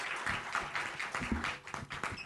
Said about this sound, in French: Merci à vous. Applaudissez-vous. Bravo. Car sans vous, on n'est rien.